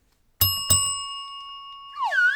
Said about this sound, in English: We got to ring that news bell.